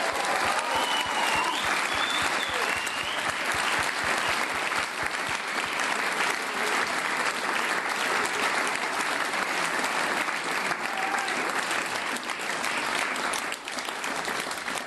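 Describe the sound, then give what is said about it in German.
A large audience applauds an event organizer steadily for about fifteen seconds, a dense, even wash of clapping with a few faint whistles or cheers rising above it, holding level before easing slightly at the end. “Könnt ihr ihm einmal auch einen ganz kräftigen Applaus geben?”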